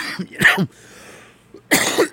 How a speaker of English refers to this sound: This cough's blowing my mind right now. I got to rest it.